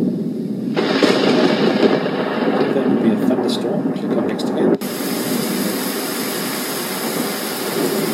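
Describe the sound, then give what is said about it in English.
A steady, dense hiss of heavy rain starts after a brief moment and continues throughout, with deep rumbling thunder swelling beneath it in the first half. “Rain and thunder.”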